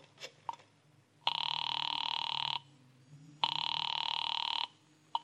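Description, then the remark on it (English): A telephone rings twice on the line after a number is dialed from a phone, each long steady electronic ring separated by a brief pause, sounding slightly thin as if heard through a receiver. “Well, I thanked him, dropped 4 bits in the Christmas fund bottle, and found a phone. I dialed Bradshaw 7-7-Eleven and waited.”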